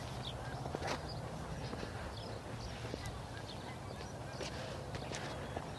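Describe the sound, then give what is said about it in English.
Several V-shaped flocks of Canada geese honk intermittently overhead as they fly, their calls scattered over a steady outdoor background noise, with no talking. “Several V's of geese.”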